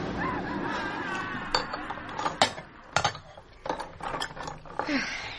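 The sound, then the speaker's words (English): Irregular clinks and clatters of dishes and cutlery, several sharp knocks over a few seconds, with a faint murmur of voices in the background. “I'll leave you to wipe the dishes.”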